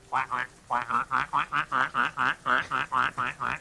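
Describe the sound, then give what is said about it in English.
A person imitates a duck with a quick, steady run of about a dozen nasal quacks, fairly loud, with no other talking. “The duck dance, yeah.”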